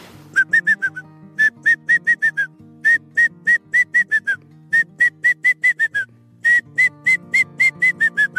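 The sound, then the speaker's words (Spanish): Four runs of clear, high whistled notes from an adult ornate hawk-eagle (Spizaetus ornatus) in a reserve, each a quick series of six to eight evenly spaced calls that sag slightly in pitch at the end, over a faint low hum. “Hay otra especie que es muy bonita, de una de mis favoritas, que es águila elegante, la Spizaetus ornatus, que le hace.”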